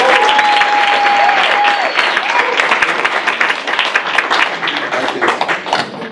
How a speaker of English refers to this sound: So let's give John Paul DeJoria a round of applause.